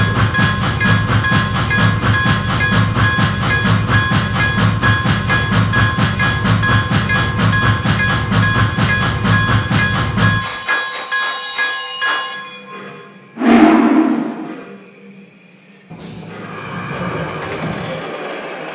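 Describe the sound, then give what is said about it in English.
Passenger train number 40, the Imperial, rolls past, a loud steady rumble with rhythmic clatter and ringing tones, then it cuts away to quieter rattles and one brief burst of noise. “train number 40, the Imperial.”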